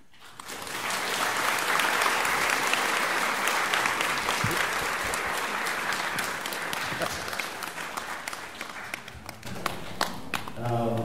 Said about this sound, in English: I think I don't have to say thank you. With your big applause, it meant a big thank you to Ajahn Brahm.